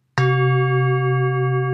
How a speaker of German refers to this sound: Der Gong kommt aus dem Nichts.